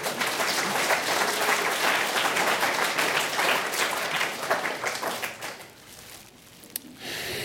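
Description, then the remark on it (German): Studio audience applause at the Toll Collect Show, a dense roar of many hands clapping at steady loudness for about five seconds, then thinning out and fading to a quieter patter near the end. “Willkommen bei der großen Toll Collect Show. Applaus, Applaus, Applaus!”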